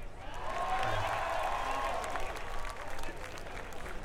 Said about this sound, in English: We get a round of applause for the weather.